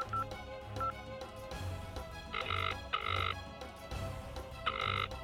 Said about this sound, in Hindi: अभी घर से निकले फिर फोन बजना शुरू।